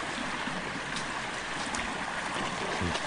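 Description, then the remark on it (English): A steady, continuous rush of flowing creek water fills the scene, even and unbroken from start to finish, with no voices over it; the creek beside a small cabin, still roaring. “We're going to walk all the way up the creek now.”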